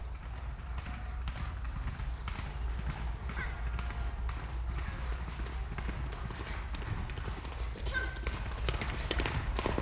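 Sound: horse hooves clip-clopping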